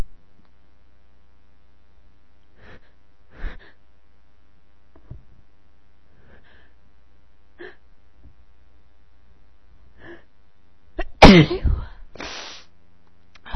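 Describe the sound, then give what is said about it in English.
A few short, quiet catching breaths build up before one loud, explosive sneeze bursts out near the end, followed by a brief trailing exhale. “Every single every single spring I start to sneeze in April.”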